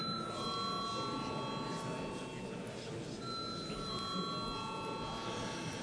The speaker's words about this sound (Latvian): Saskaņā ar Saeimas kārtības rulu šis jautājums ir balsojums. Lūdzu zvanu.